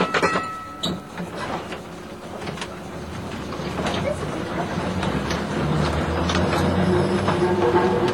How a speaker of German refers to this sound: Und so zieht die altertümliche Tram weiter unerschütterlich ihre Bahn. Entlang der Woltersdorfer Schleuse und dem 1888 eröffneten Café Knappe